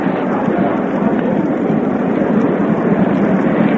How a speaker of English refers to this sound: The applause there is for the catch by the spectator.